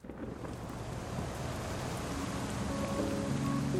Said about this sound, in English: We're sitting on the stoop of a church near work, with styrofoam coffee cups, watching the rain drip from the awning.